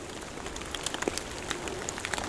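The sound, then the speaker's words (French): Melting snow from a light dusting on fir boughs drips in a forest in a steady, irregular patter, with many small scattered drops tapping over a soft, hissing background; it is not raining, and there are no voices. “C'est juste la fonte du saupoudrage de neige qui s'est déposé sur les ramures des sapins.”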